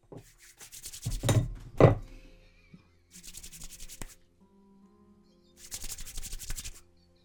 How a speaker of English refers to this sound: rubbing the back of the door.